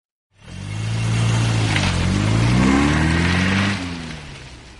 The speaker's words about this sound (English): And I drove my car off the train and onto the road. A French road.